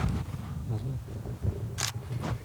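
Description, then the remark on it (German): A single crisp camera shutter click, a brief snap standing out over a low murmur of voices and background noise. “So, ein Foto von der Höhle.”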